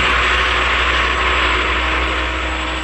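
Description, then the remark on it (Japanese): A loud, steady aircraft engine roar with a deep low hum beneath a broad, hissing rush, holding constant throughout without voices or breaks, as the Strike Beetle's main and second engines power on for launch. “メインエンジンパワーオン、セカンドエンジンパワーオン。”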